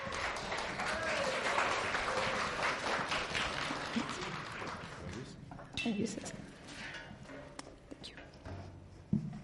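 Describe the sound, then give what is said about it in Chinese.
A church audience claps steadily to welcome the preacher for the sermon, a dense wash of many hands that fades over about five seconds, leaving scattered claps, shuffling and faint voices. “弟兄姐妹请坐，我们以掌声来欢迎我们一起只是来证道。”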